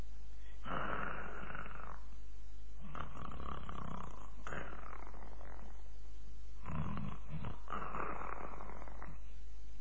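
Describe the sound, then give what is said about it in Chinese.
A voice imitates the heavy snoring of people asleep on a city wall: four long, rasping snores in a slow, steady rhythm, fairly loud, with short pauses between breaths. “张顺在湖面上露出脑袋来，仔细地往城上边听了听，这功夫隐约约就听见城上有呼吸的声音，还有的人打呼噜。”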